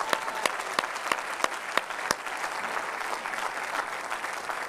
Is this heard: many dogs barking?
no